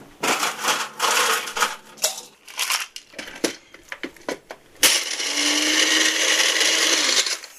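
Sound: blender crushing ice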